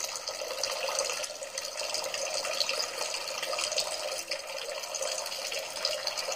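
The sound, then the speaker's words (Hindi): Water pours steadily out of a vessel in an unbroken splashing stream, a bright, hissy rush that holds an even level for several seconds with no voices; the water keeps falling until the vessel is completely empty. “आणि आता हे पाणी जरी त्या पायाच्या पातळीच्या खाली गेलं तरीसुद्धा हे पाणी थांबत नाही, आता पूर्ण भांड रिकाम होईल, तोपर्यंत हे सगळं पाणी आहे तसंच पडत राहील।”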